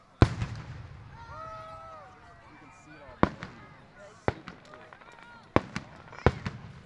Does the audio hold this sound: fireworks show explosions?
yes